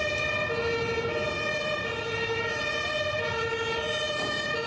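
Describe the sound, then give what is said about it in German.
An emergency vehicle siren wails continuously and fairly loudly for the whole stretch, a steady tonal drone over low traffic rumble, with no one speaking, after a traffic accident on an airport apron. “Krankenwagen und Feuerwehr lassen auf sich warten.”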